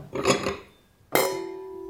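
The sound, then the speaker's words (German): Wine glasses are picked up and knock together, first a muffled rattle, then a sharp bright clink that rings on with a sustained glassy tone. No voices. “Ich lasse den Schluck auch hier und nehme die anderen Gläser.”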